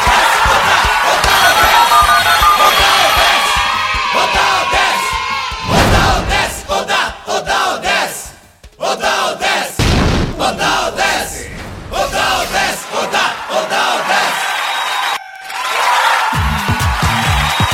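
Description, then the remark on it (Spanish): A loud group of people shouts and cheers together, their voices overlapping in sustained, rowdy bursts with a few brief dips before the clamor surges again. “Ya no gritemos mucho.”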